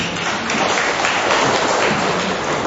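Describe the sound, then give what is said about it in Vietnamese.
A crowd claps steadily in thanks to people who came from Saigon, a dense, loud wash of many hands filling the whole stretch without a break, with no voices standing out above it. “Một tràng pháo tay thật lớn nữa thưa anh chị em.”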